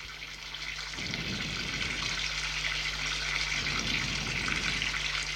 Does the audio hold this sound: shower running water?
yes